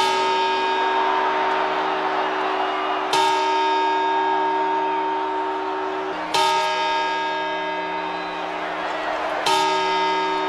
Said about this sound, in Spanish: Y ahora las campanadas.